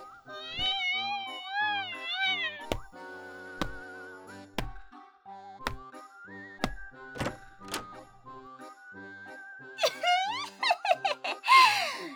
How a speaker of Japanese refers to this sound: おい、にゃんこ、調子乗ってんじゃねえぞ。ちょっとこっち来いや。